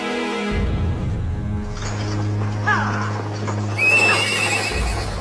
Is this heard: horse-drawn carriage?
yes